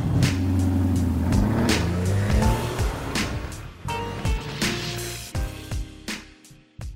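A powerful sports car engine revs loudly, its throaty growl rising and falling in pitch through several bursts before dropping off, with no one talking.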